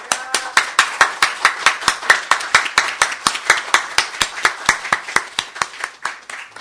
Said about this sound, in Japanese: それでは私たちを歓迎してくださっている主に感謝の拍手を捧げて礼拝を始めていきたいと思います。